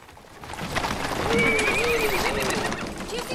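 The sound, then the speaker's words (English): Horses and a coach come down a town's main street and pull to a stop outside the sheriff's office, hooves clopping over a rumbling wash of noise while one horse lets out a loud, drawn-out whinny. “They all come to a stop outside the sheriff's office.”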